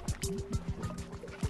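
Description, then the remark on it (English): Water pours steadily into a container, with rapid bubbling, gurgling bursts and a faint rising ring as it fills, moderately quiet. “Water.”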